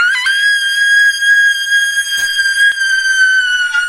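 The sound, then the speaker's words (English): A woman lets out a loud, piercing shriek held at a steady high pitch for nearly four seconds in a studio, with no talking around it. “So just get like a little step back, and as we go to break, we're gonna get a good shriek coming down in 3, 2, 1.”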